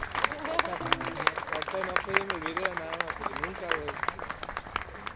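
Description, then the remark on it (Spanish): A crowd applauds steadily after a wedding blessing, with dense, crackling claps that last the whole stretch, while voices call out and talk over the clapping. “Un aplauso, felicidades.”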